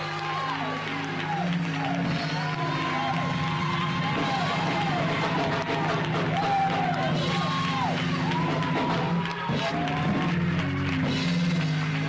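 A church audience at the Church of Jesus Christ House of Prayer hollers and claps together as its pastor is introduced, in a dense, continuous roar, with overlapping shouts and whoops rising and falling above steady hand clapping and a low, sustained hum throughout.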